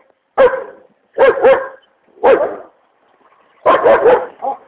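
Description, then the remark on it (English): A dog barks loudly in four bursts, some single and some doubled, with brief silences between them and a short trailing yip at the end. “And, well, good morning, dog.”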